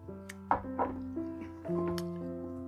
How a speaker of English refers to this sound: I'll let you find that spot while I drink some water.